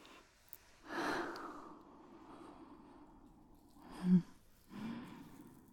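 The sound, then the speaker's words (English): A person gasps with a sharp, breathy intake as fingers brush against their nipples during a chest massage. It is followed by a couple of softer breaths and a brief nasal exhale, with no talking. “You just gasped when I brushed my fingers against your nipples.”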